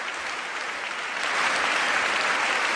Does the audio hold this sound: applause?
yes